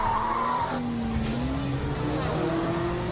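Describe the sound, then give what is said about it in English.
Car tires skid with a high squeal early on during a car race with a wreck of piling-up cars, followed by a steady engine drone with a rising whine. The sound is loud, with no one talking. “Oh, there's a skid! Oh, and there's a wreck!”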